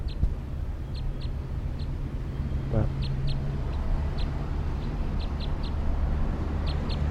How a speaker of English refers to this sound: Recording with the wild bird again at 1:09 p.m. Wild orange male. Lone bird.